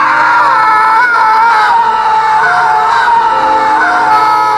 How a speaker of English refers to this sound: Why are you yelling?